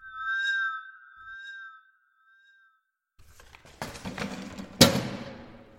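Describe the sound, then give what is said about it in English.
A free plastic charity bag asking for clothes donations pushes through a door letterbox with a crinkly, scraping rustle and drops to the floor with one soft thud. Before it, a high two-note whistle-like tone sounds twice on its own. “So, what's that plopping through my door?”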